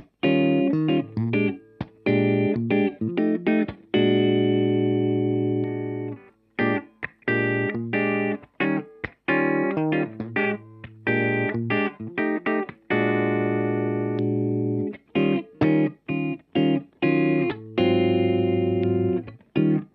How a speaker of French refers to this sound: la sensation d'espace qu'on a autour du son de guitare pour éviter d'avoir juste le son hyper sec qu'on aurait qui serait simulé là en l'occurrence par deux types d'ampli, un Ribbon 160 et un condenseur 67.